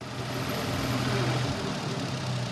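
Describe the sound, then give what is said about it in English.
A tractor engine idles on a farm in Salinas, California, on a windy afternoon, a steady low rumbling drone that holds constant for the whole stretch, with a broad rushing noise layered over it and no one speaking. “steps off a tractor on a windy afternoon.”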